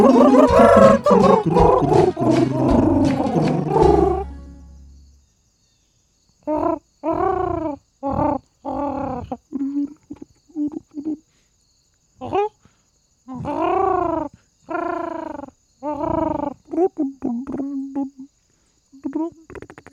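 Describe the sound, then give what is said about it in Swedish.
A short, dense intro jingle with a punchy percussive beat plays for about five seconds, then breaks into a string of separate, clipped vocal bursts. “Här kommer den gingen.”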